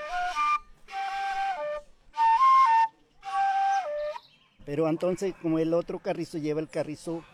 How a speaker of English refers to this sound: This is a female carrizo. It has five holes, and on one end It's got a black head made of beeswax, where part of the feather of a turkey or a duck is stuck. You blow through it, and that's how we produce its sound. This is what it sounds like.